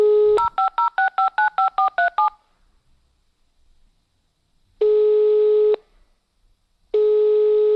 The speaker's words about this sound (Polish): Słuchajcie, odczytałem numer. Wykręcaj.